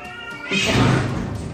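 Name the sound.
kitten meowing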